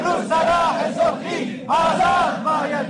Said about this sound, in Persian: روز یکشنبه در شیراز هم معلمان فریاد دادخواهی سر دادند. فریاد دادخواهی در اصفهان و کرمانشاه هم شنیده شد.